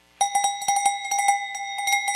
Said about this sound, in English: Because people have these cowbells, especially out in rural Europe, and they're ringing these bells. And it's the way for them to cheer on their cycling athletes.